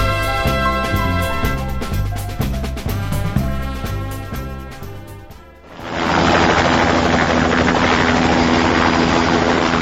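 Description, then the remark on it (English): An air rescue service helicopter thrums with steady rhythmic rotor pulses, then its sound swells into a loud, dense roar of engine and wash that holds to the end. No one speaks. “The rescuer is carrying a radio with which he keeps contact with the helicopter.”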